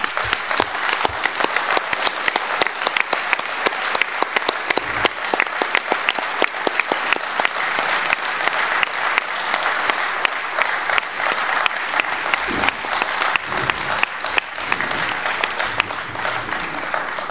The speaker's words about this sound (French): Maintenant, je vous prie, il y a la collègue, camarade et conseillère fédérale Ruth Dreyfus qui vient d'entrer dans la salle. Je vous invite à l'applaudir.